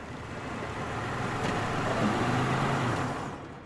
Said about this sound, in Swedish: Vi befinner oss utanför en av USA:s största flygplatser, Los Angeles International Airport. Omkring klockan 9 stannar en bil utanför terminal 3.